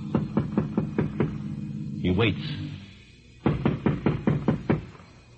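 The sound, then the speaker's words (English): Two bursts of sharp, rapid knocking on the front door of a seemingly deserted house, about six raps each, separated by a brief spoken line and a pause. “Roy goes to the front door warily and knocks.”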